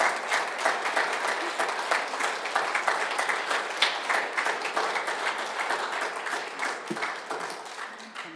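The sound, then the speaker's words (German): Sustained applause at a church service, thanking the sacristan for the organisation and the musicians for the music, a dense steady wash of many hands clapping at an even loudness for the full eight seconds, with no voices standing out. “Ja, das ist ein Applaus.”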